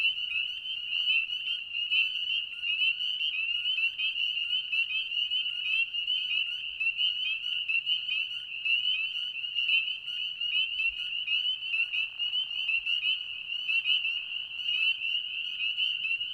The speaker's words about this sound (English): From a distance, a chorus of spring peepers is pleasant to behold, reminding some of the tinkling of distant sleigh bells.